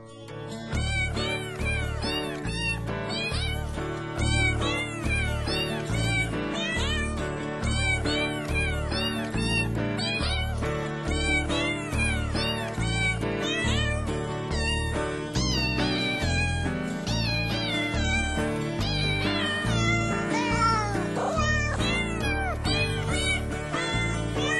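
Cat meows edited into a melody, singing a Christmas carol over a steady, thumping musical backing, loud and continuous throughout with no talking.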